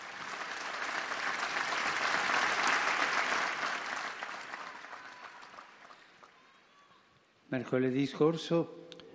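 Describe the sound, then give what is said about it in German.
An audience claps steadily to greet the more than 200 sick people in the Paul VI Audience Hall who follow the audience on large screens, a dense, sustained wave that swells and then gradually fades. Once the clapping dies away, a man begins speaking. “Wir alle zusammen bilden eine Gemeinschaft und jetzt grüßen wir die, die in der Aula sind, mit einem Applaus.”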